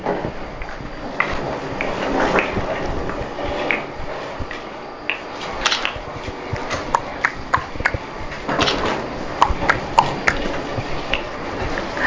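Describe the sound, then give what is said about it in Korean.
A series of sharp, dry clicks resembling a clock's ticking, fairly steady in rhythm, with a faint rattling noise from a cart in the background and no voices. “왠지 시계 소리 냈지?”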